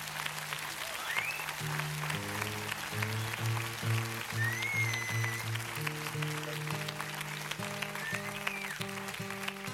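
An audience claps steadily throughout, a dense crackling wash of applause blended with sustained instrumental chords playing underneath, with no voices.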